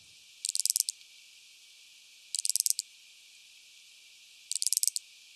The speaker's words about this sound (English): Some species are also named after what they sound like. How about this creaking branch cicada?